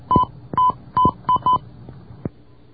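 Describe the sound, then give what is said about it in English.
Five short touch-tone beeps from a telephone keypad, dialed in a quick uneven sequence for an international call (01, country code 82, city code, then the number), each cut off crisply, followed by a faint click. No one speaks. “Dial 01, plus the country code, which is 82, and then the city code, and then the number...”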